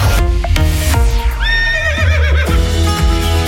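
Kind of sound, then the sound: animal, horse neighing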